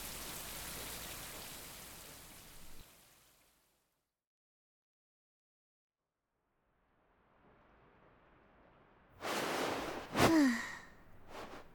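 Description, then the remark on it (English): A steady hiss of shower water runs for a few seconds and then shuts off, leaving near silence before a soft rustle and a loud, breathy sigh. “That was a good shower.”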